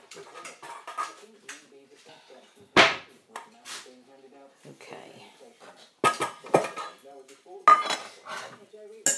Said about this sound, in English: What next? Cat dishes. Oh yes, of course.